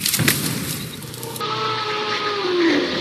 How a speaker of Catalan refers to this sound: Què l'heu sentit, aquest soroll? No, no pot. No pot ser. Això semblen brams de dinosaures.